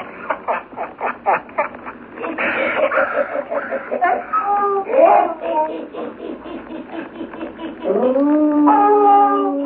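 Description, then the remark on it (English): A pack of frightened sled dogs, led by lead dog Whiskey, whimpers and yelps in quick, pulsing bursts, then breaks into overlapping whining cries and finally a long, loud, sustained howl. “See, Buona, even the dogs, they are frightened. Whiskey, leader, shut up.”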